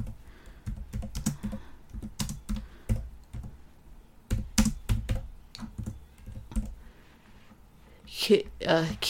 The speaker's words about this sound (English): Let's see how say, do you want to have sex? Excuse my typing.